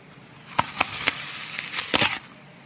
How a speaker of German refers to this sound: Genau. Das ist noch ein Urlaubsgeräusch, zumindest wenn es darum geht, Kulinarik in den Vordergrund zu rücken. Also wir haben gerade das Beißen in einen Apfel gehört.